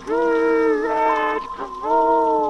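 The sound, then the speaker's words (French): The drawn-out, tonal roar of the dragon guarding Atlantis, loud and mournful, holding steady pitches that step up and down in three long wailing phrases with no talk over it. “C'est rien, c'est le dragon qui garde l'Atlantide.”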